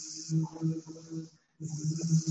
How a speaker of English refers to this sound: Oh, we hear another bee coming in.